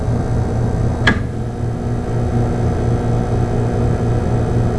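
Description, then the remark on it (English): A refrigerator compressor motor running on a modified sine wave inverter power source gives a harsh, steady electrical buzz and low hum, loud, broken only by a single sharp click early on; no one speaks. “The noise you hear is due to the rectangular shape of the modified sine wave, which results in more vibration, heating, and losses in the motor.”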